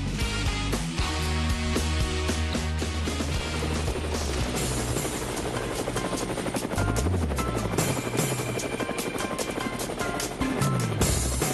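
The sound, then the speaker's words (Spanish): A helicopter's rotor blades spin, a loud, steady chopping roar with a deep engine drone and a high whine that fills the whole stretch without a break. “Bueno, amigos de Cuba, ahí están las aspas del helicóptero, y como a mí me encanta tomar altura cada vez que puedo, pues yo me monto sin demora en el helicóptero.”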